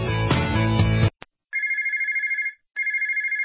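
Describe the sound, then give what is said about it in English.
A short musical sting cuts off, then a telephone rings twice: two loud electronic trilling bursts with a brief gap between them, no voices. “If you're in a service business, that's money ringing in your ears.”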